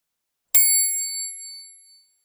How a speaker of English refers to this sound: Turn the page when you hear the bell.